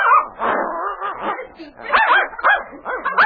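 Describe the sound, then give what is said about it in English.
A small, active puppy yips and barks excitedly in quick, high-pitched bursts, loud, with barely a pause across the few seconds, as it leaps at and attacks the wind-flapped corner of a blanket on a sled after pulling its leash free. “The corner of a blanket on the sled flapped in the wind, and suddenly the pup leaped toward it, pulling the leash from his young master's hand and attacking the blanket with vigor.”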